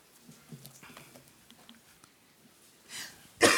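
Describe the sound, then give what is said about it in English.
A raspy, wheezing intake of breath is followed by one loud, close, harsh cough right at the end, after a few seconds of faint, quiet rustling. “I do have a little bit of a cough, I think from allergies or something, so if you can bear with me on that.”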